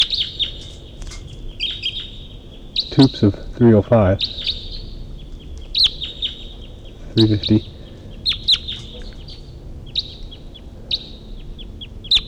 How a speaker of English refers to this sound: And there's a wild bird. A wild bird at least flew over. And it's calling from the distance.